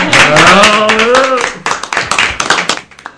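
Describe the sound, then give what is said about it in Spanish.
An audience bursts into loud applause, dense clapping mixed with a rising cheer at first, then thinning into scattered, uneven claps that fade over about three seconds. “Vale, qué bonito, un aplauso.”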